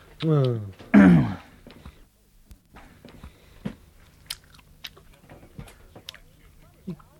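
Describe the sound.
Moist chewing of gum: soft irregular smacks and clicks of the mouth continue for several seconds, following two short, loud voiced sounds at the start.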